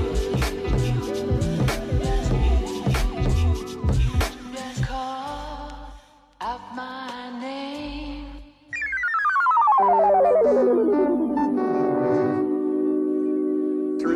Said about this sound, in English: Count them. Yeah, two rings. I have to answer the phone there. No, I am counting the rings. Three rings. I'll get it.